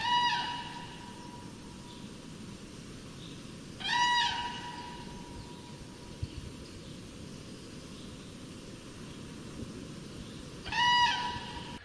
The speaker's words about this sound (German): Das sind meistens große Vogelarten, Adler. Oder Kraniche.